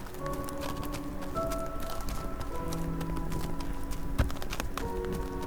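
Donkey hooves clip-clop at a steady walking pace as Joseph leads the donkey on the dark, bitterly cold night road from Bethlehem toward Egypt, with a soft sustained musical drone underneath and no talking.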